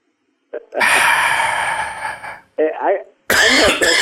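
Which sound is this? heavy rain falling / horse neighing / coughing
coughing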